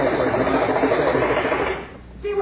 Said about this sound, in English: It was the water pipe knocking.